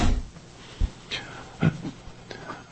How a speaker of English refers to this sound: Close the door. Yes, sir.